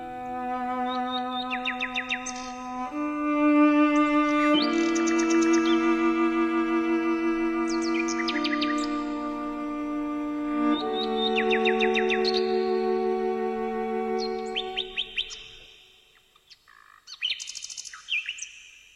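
A nightingale's bright, warbling song trills and chirps in quick bursts above a sustained, mellow cello melody, then continues briefly on its own after the music fades; from the radio play The Cello and the Nightingale.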